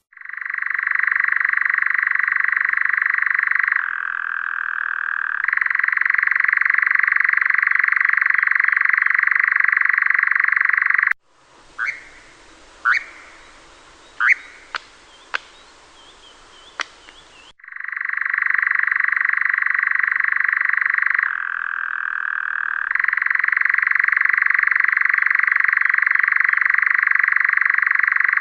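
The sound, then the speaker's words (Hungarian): A nocturnal bird perched on top of a juniper bush at night, its small beak wide open, gives a continuous loud churring trill resembling a green toad's call, dropping in pitch now and then, breaking off midway for a few sharp clicks and short calls, then resuming steadily. “és ott hát a kis apró csőrét nagyra tátja, és úgy adja ki ezt a píregős hangot, ami hasonlít a zöld varangyéhoz, vagy akár a tücsök madárnak az énekéhez is, de azért éjszaka fel lehet könnyen ismerni ennek a hangját.”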